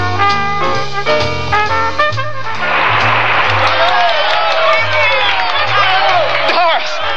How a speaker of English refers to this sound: Can you hear him? Can you hear that applause? Can you hear him all through the concert?